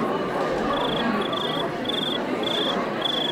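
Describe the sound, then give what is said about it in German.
Someone imitates a cricket with five evenly spaced, high-pitched chirps repeating in a steady rhythm over a constant background hiss, moderately loud, with no talking. “Also mein Lieblingsgeräusch ist, glaube ich, die Grille.”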